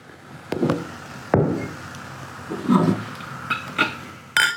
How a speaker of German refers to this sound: So, wir stoßen an.